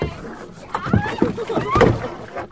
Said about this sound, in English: We kayaked. There was the orientation getting into the boats, and there were a couple collisions at first, getting out of the bay.